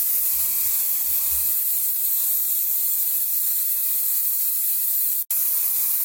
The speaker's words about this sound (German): So Faschingsspray.